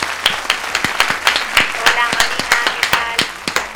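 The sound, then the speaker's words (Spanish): An audience claps steadily to welcome a guest, with sharp irregular hand claps overlapping in a dense, lively burst of applause that holds at a fairly even loudness throughout. “Un aplauso para Elena Granell, por favor.”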